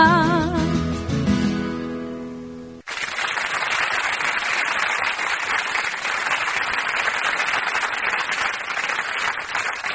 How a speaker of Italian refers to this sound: solito bellissimo applauso per la rubrica Wikilisa. Grazie. Stupenda ancora la performance.